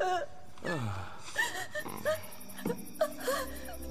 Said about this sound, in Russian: Бедная принцесса. Она раздавлена, ваше величество. Она все время плачет.